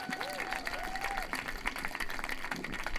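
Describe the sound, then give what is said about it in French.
An audience applauds with dense, steady clapping that fills the whole stretch, a couple of brief whistle-like tones rising early on and faint crowd voices mixed underneath. “En tout cas, c'est juste moi qui trouve que ça n'a pas de bon sens, par applaudissement, mettons.”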